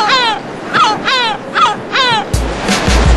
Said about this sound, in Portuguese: As gaivotas são parte do cenário. como conversam.